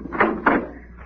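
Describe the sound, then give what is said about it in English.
The door to a man's room upstairs in a house is opened: two short, scraping bursts, one right after the other, then a fading rustle over a low steady hum. No one speaks. “I'll open the door,”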